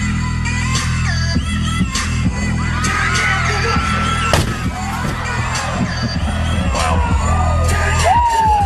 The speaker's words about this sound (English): Well, when it stopped running, he decided to smash it with a pumpkin that weighs a ton. Here is the awesome moment when a crane drops the giant pumpkin with onlookers watching and cheering with amazement.